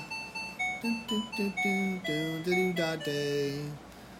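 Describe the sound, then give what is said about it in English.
A timer alarm signals that time is up by playing the Camptown Races melody in bright, electronic chime-like tones, a quick run of distinct notes with steady harmonics, ending after about four seconds with no one talking. “Camptown Races, I guess, is what that is. Camptown Races, yeah. So anyway, that's the timer.”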